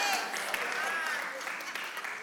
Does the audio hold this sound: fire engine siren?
no